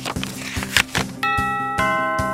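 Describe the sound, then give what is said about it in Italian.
A doorbell chimes twice in quick succession, two bright ringing tones that hang and slowly fade, over a steady background of rhythmic music. “Stai cucinando e i tuoi vicini ti suonano di continuo facendoti bruciare il pollo?”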